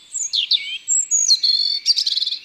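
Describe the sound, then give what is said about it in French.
A European robin sings alone, a quick run of thin, high-pitched warbles and trills that shift pitch from phrase to phrase, ending in a rapid fluttering series. “Il a une petite voix très aiguë”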